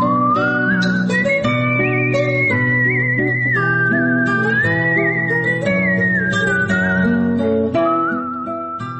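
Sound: melodic human whistling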